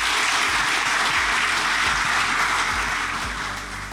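A crowd claps steadily in a dense, continuous round of applause, loud and sustained throughout, tapering off slightly at the very end with no voices over it.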